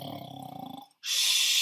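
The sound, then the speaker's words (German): A single loud snore from a tailor sleeping deeply in his bed at night: a deep, rattling, buzzing inhale, then a brief pause and a long, airy, hissing exhale, with no talking. “Man hörte sein lautes Schnarchen.”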